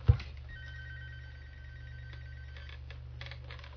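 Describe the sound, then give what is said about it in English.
A telephone rings faintly in the background, a thin steady electronic tone over a low hum, starting with a brief knock and continuing without any voices. “Hopefully you can't hear that phone ringing in the background, huh?”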